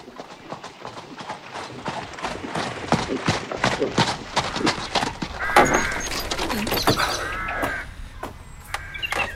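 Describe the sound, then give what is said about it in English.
Horse hooves clip-clop in a steady, brisk rhythm as a horse-drawn carriage passes, with a few bird caws rising in the background partway through. “I'll have the groom prepare a carriage.”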